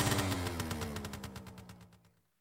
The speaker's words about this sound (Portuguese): Lá se foi a lambreta. Ela está a funcionar incrível.